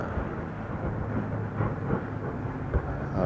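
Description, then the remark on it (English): A steady, low engine drone from a light observation airplane flying overhead, a continuous rumble with slight swells and a few faint thumps, no voices. “There's a light observation airplane up above us.”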